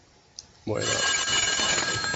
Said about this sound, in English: I really wanted to hear what he was going to say about …, but they stopped tape after the phone rings.